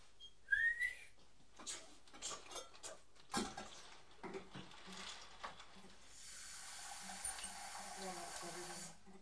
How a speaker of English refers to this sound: I think he might be putting some water in the pan to cook the carrots.